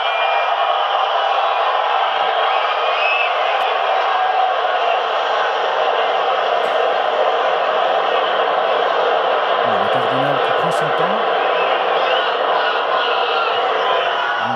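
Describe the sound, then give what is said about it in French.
A huge crowd in Saint Peter's Square cheers in a steady, loud roar that never lets up, many voices blending into one dense wall of noise for the whole stretch, as the announcement of the new pope is awaited. “Il faut dire qu'il y a la foule hein, sur la place Saint-Pierre et que ce moment est très très attendu.”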